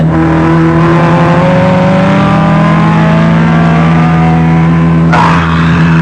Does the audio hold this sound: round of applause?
no